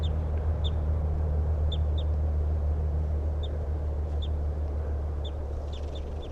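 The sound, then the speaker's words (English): A male bird near a road sings its song of short, high chirping notes repeated in small bursts, over a constant low rumble of road traffic. “So recording, here's the good song of that male who's near the road.”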